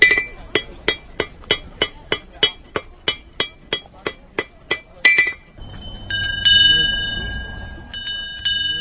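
A steady series of sharp metallic hammer strikes on metal gives way to several bells rung by customers at a market stand, ringing at different pitches. Their tones linger over a faint murmur of market crowd noise.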